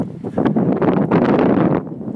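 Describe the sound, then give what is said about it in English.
Loud, blustery wind buffets the microphone outdoors at an equestrian venue with arenas, a steady low rumble with rough gusting surges throughout, constant with no voices. “It's windy though.”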